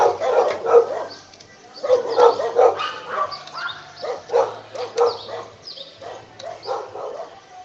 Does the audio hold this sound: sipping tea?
no